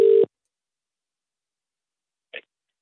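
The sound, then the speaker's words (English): A brief, steady electronic phone tone as a call is placed to a radio listener sounds at the start and cuts off quickly, followed by a long silence and a single faint click near the end. “So I'm going to make a phone call now.”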